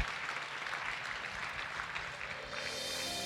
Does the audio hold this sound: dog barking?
no